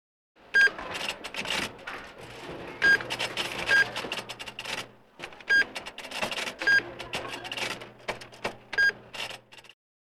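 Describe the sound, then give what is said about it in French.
A supermarket checkout till (cash register) beeps at irregular intervals during Saturday family shopping in a crowded supermarket, six or so short electronic tones amid steady clattering and rustling of items being handled, with a low machine hum underneath and no voices. “I can hear the checkout till.”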